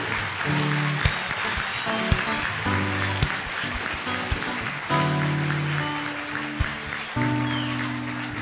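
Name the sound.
audience applauding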